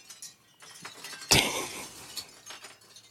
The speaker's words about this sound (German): Wir lauschen dem Windspiel, schau mal.